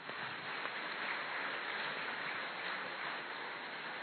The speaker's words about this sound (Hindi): ताली बजा सकते हैं।